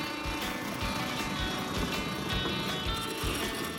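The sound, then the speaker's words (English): A small motor on a homemade car, being tested, runs continuously with a harsh, rattling, grinding whine, loud, its pitch wavering slightly as it churns. “We're testing the motor. That motor sounds like a broken down garbage disposal.”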